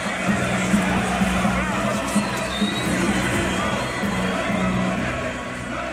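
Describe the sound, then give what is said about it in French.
A crowd of hundreds of thousands fills rue Didouche Mourad in Algiers with a steady, loud roar of many voices, shouts and cheers blending together as people chant "Djamila, Djamila est là", with no single speaker standing out. “que de nouveau des centaines de milliers d'Algérois et Algéroises investissent la capitale, vers la rue Didouche Mourad, pas très loin du monument en mémoire de Maurice Audin, au cœur de la foule, une rumeur s'élève. Djamila, Djamila, Djamila est là.”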